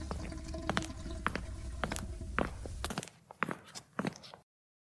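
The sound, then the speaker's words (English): A muffled toilet flush upstairs: a steady rush of water for about three seconds, then scattered drips and trickles as the tank refills, with no voices. “So I hope he fixes the toilet. Oh, hang on, can you hear some flushing upstairs?”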